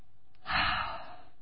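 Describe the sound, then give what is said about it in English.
A single deep, audible breath, drawn in and let out in about half a second: a breathy rush of air with no talking around it. “The breath that you have in your body right now. You want another proof that God exists? Do this.”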